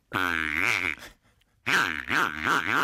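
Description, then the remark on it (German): A small squeaker taken out from inside a broken squeaky toy pig sounds twice: two loud, low, buzzy honks, each under a second long, with a short pause between and a wobbling, rising-and-falling pitch on the second. “Da habe ich so ein kleines Gerät, was in so einem Quietschschwein drin war, und das Schwein ist kaputt gegangen.”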